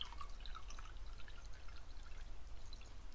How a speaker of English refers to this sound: Here, let's get rid of the water first.